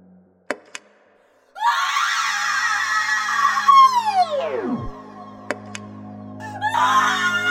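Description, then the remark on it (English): A harsh, electronic machine scream blares loudly after a couple of sharp clicks, holds steady, then slides steeply down in pitch and dies out before a second screech starts up, as a machine boots up after its power button is pressed. “It took 3 more boots and 3 more screams, each one more grating, more awful.”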